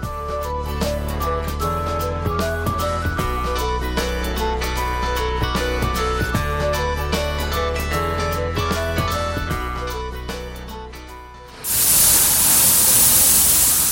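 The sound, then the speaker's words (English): After a stretch of music ends, a loud, steady hiss of PictoBot, a robot from NTU, spraying primer coat onto a wall takes over for the last couple of seconds, with no talking. “The sound of a robot there spraying primer coat onto a wall from NTU called PictoBot.”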